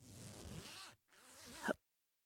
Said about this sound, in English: That didn't sound good. Is the zipper stuck?